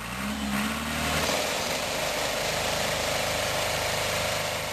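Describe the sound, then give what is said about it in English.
A tractor engine runs steadily as tractors shake olive trees to get the olives off during a mechanical olive harvest, its low rumble joined by a fast, rhythmic shaking rattle and a broad wash of mechanical noise, with no voices. “Tractors shake trees to get the olives off.”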